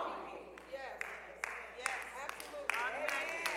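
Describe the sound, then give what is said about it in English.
Scattered applause from an audience, sharp individual claps popping out irregularly over a steady background of crowd voices and murmuring. “Yes, that, come on, you can clap there.”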